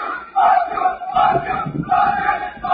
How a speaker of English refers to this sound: And then we have in Hungary. This is a complete mess. You can see, like, just everyone just running around. They're screaming, fuck you, to the police.